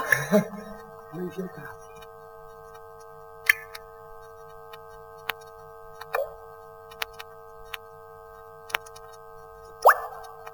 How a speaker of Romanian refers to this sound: E că uite, a început să picure din tavan. O infiltrație.